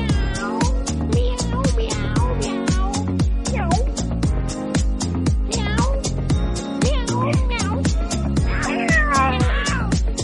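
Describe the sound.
Several voices loudly imitate cats, meowing and yowling in drawn-out, wavering cries that overlap continuously above a steady, pulsing rhythmic backing throughout.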